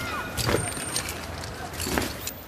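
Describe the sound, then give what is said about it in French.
In a film scene, a man back at his car lifts spray paint cans out of the trunk: two bright bursts of metallic clinking and rattling, with softer shuffling in between over a steady low background hum. “En fait, on entend ce bruit, il sort des bombes de peinture.”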